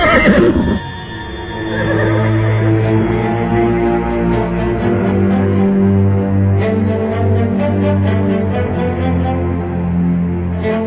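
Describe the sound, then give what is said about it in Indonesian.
A horse whinnies loudly, a long, drawn-out neigh that holds steady for several seconds with no voices around it. “Mudah-mudahan saya bisa naik ke atas punggung kuda.”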